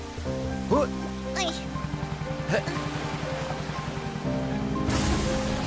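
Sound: rain falling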